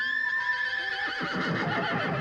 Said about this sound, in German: Aber wo war mein Pferd? Ja, wo war das denn nun? Ich hörte Gewieher.